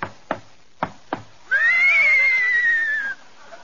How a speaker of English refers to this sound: Somebody riding into the studio on a horse. Whoa, crooner!